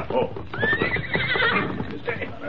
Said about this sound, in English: he heard hoofbeats approaching. He recognized them as those of Tonto's paint horse scout